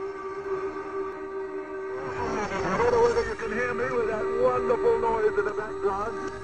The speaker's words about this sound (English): those tugs hooting and tooting mean that the Jason has been placed in position